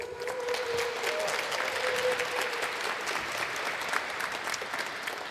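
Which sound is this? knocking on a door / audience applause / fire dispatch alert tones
audience applause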